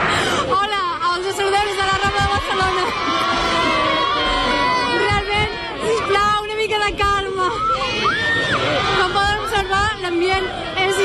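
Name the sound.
crowd celebrating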